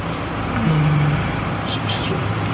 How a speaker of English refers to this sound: There's another car coming up behind us.